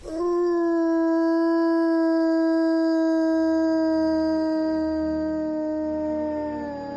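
A single wolf howls in one long, sustained, steady note lasting several seconds, loud and clear, slowly fading at the end with no other voices.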